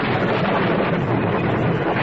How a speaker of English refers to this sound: Listen. Did you hear that? Yes. It was thunder. It was more than just thunder. It means the rainy season's about to start.